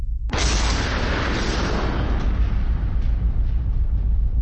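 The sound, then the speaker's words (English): A Tannerite target explosion, set off by two rifle shots (.308 and 22-250) fired at the same time, slowed down: one sudden, loud blast followed by a long, deep, roaring rumble that stays heavy and fades only slightly over several seconds. No voices. “On our second round of shots at the Tannerite, we decided to take the shot at the same time.”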